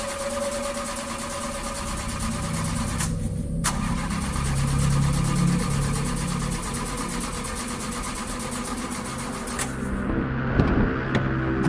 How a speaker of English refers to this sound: Let me try something. You keep saying that, and the car still won't start.